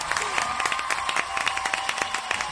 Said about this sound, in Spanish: El aplauso del juego del programa. Venga, ahora mismo.